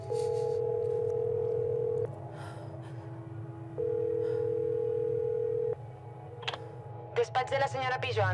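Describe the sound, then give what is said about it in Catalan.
A phone ringback tone sounds after a number is dialed on a mobile phone: two long steady beeps separated by a pause, over a low hum, followed by a brief click and a voice starting to speak near the end. “i emmarca el número al mòbil.”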